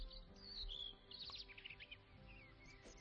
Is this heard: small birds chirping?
yes